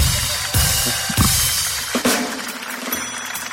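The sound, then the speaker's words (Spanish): A show audience breaks into applause for a contestant who is about to play: a dense, steady wash of clapping lasting several seconds, with a few sharper bursts standing out from the crowd noise. No voices come through. “Un aplauso por para favor, él.”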